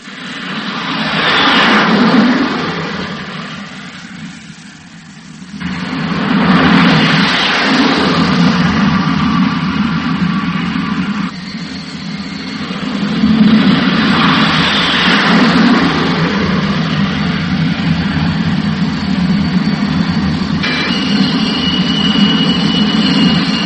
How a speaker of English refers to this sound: First flight in the jet, but at this moment, even more important, it will be the pilot's first landing on a carrier deck. As I sit here in my chair in the theater, I have an immediate sensation of flight.